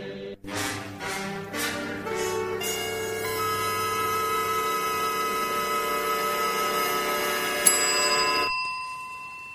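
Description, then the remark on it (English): A bell is struck several times in quick succession, each strike adding bright metallic overtones, then rings on in a long, steady, shimmering tone before cutting off abruptly. “Yeah, got the bell. We used it every day.”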